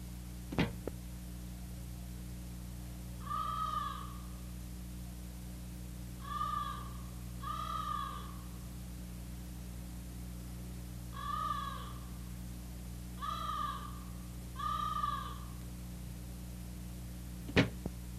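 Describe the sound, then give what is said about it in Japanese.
A crow caws six times at a steady, unhurried pace, the harsh calls moderately loud with no talking, framed by a sharp knock at the start and end over a low hum. “カラスが嫌に鳴きますの。”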